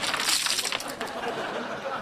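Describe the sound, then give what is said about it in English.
Jugs are pelted against the front of a door, smashing and shattering in a loud burst of bright, crackling breakage, with shards clinking and clattering through the first second before the noise settles into a softer, scattered rattle. “Said that to fend off a flea problem, you pelt the front of your door with jugs.”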